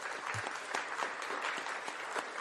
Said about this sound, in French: J'interviens aujourd'hui, avant toute chose aussi, je pense qu'il est important de vous demander de vous applaudir pour votre présence aujourd'hui, donc applaudissez-vous, n'hésitez pas.